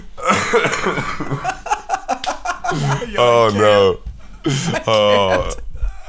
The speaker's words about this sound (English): Don't make me laugh. If I have to laugh, my cough gets really bad.